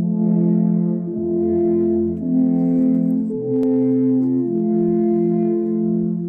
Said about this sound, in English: They hold one end of their nearly 10-foot horns in their hands, the other resting on the ground. They put their lips to the mouthpieces of the traditional Swiss Alp horns and create a melody that is heard throughout the campground.